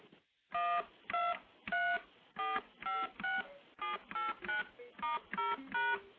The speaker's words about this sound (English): Now, just for comparison, let me play what all the standard touch tones sound like. And you've of course heard these, but I'll play them anyway, just to get them in your head.